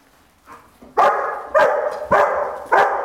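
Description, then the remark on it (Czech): A search dog barks four times in a steady rhythm, loud, after a softer yip at the start, with no one talking, signalling that it has found a hidden person during a training exercise. “Pomalu se blíží k ukryté osobě a už můžete slyšet. Hlásí nález.”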